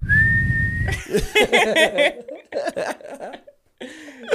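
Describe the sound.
A single loud, steady blast lasting about a second from a whistle worn around the neck, followed right away by people talking and laughing.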